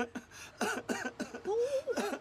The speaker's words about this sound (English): Listen to that. Started up again last week. He's on a strong cough bottle. There's oceans of it in the bag.